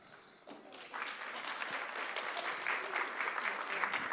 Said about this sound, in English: I just feel like it's kind of funny to clap for someone before they get up here. You're like, we have no idea how good you are. Let's see.